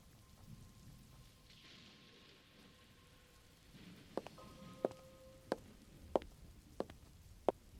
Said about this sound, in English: Just the sound of the rain and the feeling of wet concrete against your cheek.